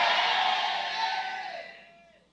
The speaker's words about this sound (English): In Jesus' mighty name we pray. Come and let your amen sound like thunder.